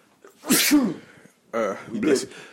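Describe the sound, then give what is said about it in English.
A loud sneeze bursts out sharply, followed about a second later by another forceful voiced burst from the same person, with near silence between them. “Bless you.”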